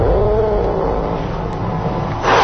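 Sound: cats meowing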